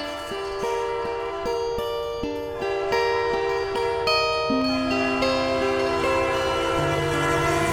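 A train rolls past, its loud multi-tone horn blaring steadily throughout while the wheels clack over rail joints in a regular rhythm beneath it.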